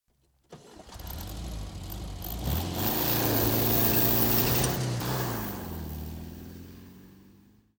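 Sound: car engine starting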